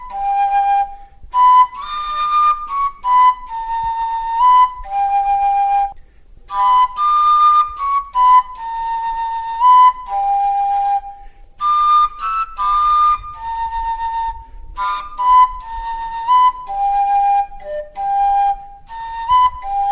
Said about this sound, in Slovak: hovorila si, že traja, takže na tretiu píšťalku nám píska